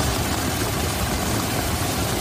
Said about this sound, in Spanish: Es el sonido del agua esta mañana en Badalona, donde se han acumulado más de 50 litros por metro cuadrado.